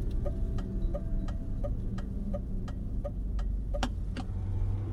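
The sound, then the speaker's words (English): A car slows to a crawl before a corner, rolling with a steady low engine rumble, while a regular ticking repeats about three times a second, like an indicator clicking. No one speaks. “slows the car down to a crawl, a precaution he takes before most corners.”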